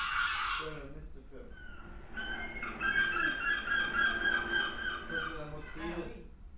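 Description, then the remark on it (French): A herring gull gives a few short nasal yelps, then a long, loud, wavering call with a harsh, honking edge. It is fairly steady, over a faint background hiss. “Le goéland, il fait plutôt le bruit d'un jeu vidéo.”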